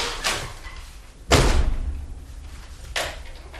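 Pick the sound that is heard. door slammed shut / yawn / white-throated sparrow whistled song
door slammed shut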